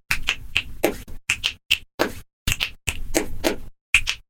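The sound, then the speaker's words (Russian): A rhythmic pattern of sharp, crisp clicks made by hand as body percussion, a dozen or so over four seconds with short gaps between groups, each bright and snappy with no one talking. “Там щелчки – это третий тембр.”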